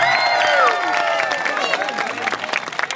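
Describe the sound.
An audience bursts into steady applause, dense clapping filling the room while excited voices cheer and call out over it, the shouts fading as the clapping carries on.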